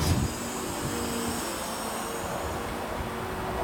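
machine, crane extending its boom

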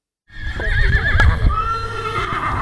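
animal, horse neighing

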